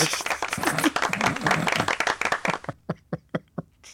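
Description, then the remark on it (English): A burst of dense audience applause that thins out after a couple of seconds into a handful of separate, evenly spaced claps before stopping. “Give him a round of applause, quickly.”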